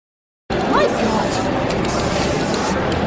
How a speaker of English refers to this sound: You are spraying me.